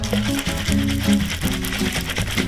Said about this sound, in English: When I made the White Lady, I did something called a reverse dry shake. Pouring off the drink and getting rid of the ice, one more shake to give better foam.